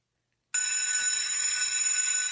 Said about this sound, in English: that is clearly a school bell. I had to find a bell.